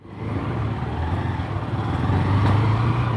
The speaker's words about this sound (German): Ich sitze auf einem Motorrad hinten und kann das Aufnahmegerät kaum halten. Wir holpern über etliche Straßen am Stadtrand von Rio de Janeiro. Hier in der Favela Maré leben rund 130.000 Menschen.